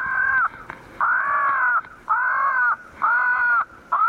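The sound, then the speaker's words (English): A tape recording of a crow distress call is broadcast around 6 o'clock among tall pines and oaks near a ball field to keep crows from roosting: five harsh, drawn-out caws in a steady, evenly spaced rhythm, loud, separated by short pauses, with no talking. “A tape recording of a crow distress call broadcasts the news that this is no place to spend the night.”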